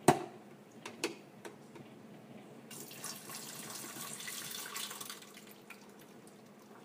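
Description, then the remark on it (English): Water, about half a cup to a cup, pours steadily for a few seconds into a coffee maker's reservoir, a hissing stream, preceded and followed by light clicks and taps from handling plastic parts. “And put just a cup of water in here.”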